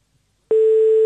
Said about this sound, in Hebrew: התמזל מזלכם, ותאמרו, תענו לנו לטלפון עם איזה משפט של מצילים, והנה אנחנו מחייגים.